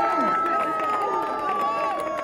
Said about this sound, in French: Il y a également des marcheurs brutaux qui sont là. On peut les applaudir plus fort.